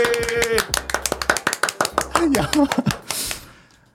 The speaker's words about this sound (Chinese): 掌声鼓励。